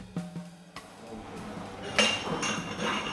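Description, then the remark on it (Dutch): A thin-stemmed wine glass is set down on a hard surface for a wine tasting: a few soft knocks, then a bright, high clink that rings briefly, with faint background murmur. “jij zet nu een mooi glas voor me neer. Dun steeltje.”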